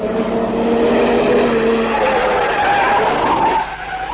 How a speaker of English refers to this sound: Car coming. There's the little fat man driving.